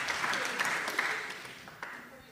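An audience applauds with a dense, steady wash of clapping and a few sharper individual claps standing out. It holds at a moderate level for a couple of seconds, then thins slightly toward the end.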